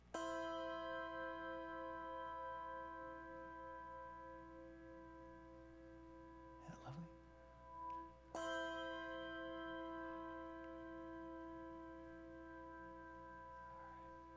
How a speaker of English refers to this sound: So then the three of us could ring our four bells.